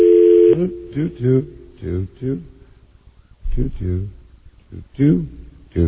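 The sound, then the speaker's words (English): A steady telephone tone hums alone for about half a second while a call is placed to the speaker's mother-in-law, then cuts off as people begin talking in short bursts, with a pause midway before the conversation resumes. “I am trying to get my wonderful mother-in-law on the phone.”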